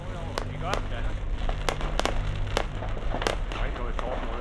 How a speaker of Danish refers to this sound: Der er nu fuld ild i fabrikken. Flammerne tiltager, og eksplosionerne bliver hyppigere.